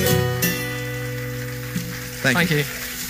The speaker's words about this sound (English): Well, ladies and gentlemen, another round of applause, please, for ….